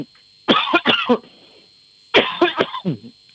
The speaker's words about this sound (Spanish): os voy a dar la entrevista con la tos.